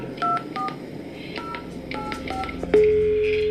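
A quick series of telephone keypad tones from a phone call recorded on cassette tape in the 1990s, a call to Sveriges ridlägers riksförbund (SRR): about eight short beeps in an uneven rhythm over a faint hiss, followed by a steady ringing or dial tone that continues to the end.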